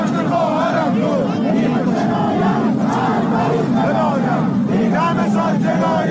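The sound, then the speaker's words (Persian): A dense crowd chants protest slogans in unison at the 40th-day memorial ceremony for Javad Heydari in the city of Qazvin, Iran, many voices rising and falling in rhythmic bursts, loud and continuous throughout. “مراسم 40 جواد حیدری در شهر قزوین نیز شاهد تجمع انبوه مردم ایران بود.”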